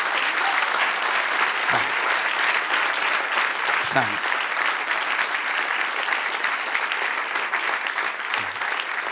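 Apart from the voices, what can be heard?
audience applause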